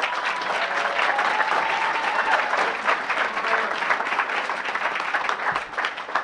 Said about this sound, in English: Nice round of applause and greeting.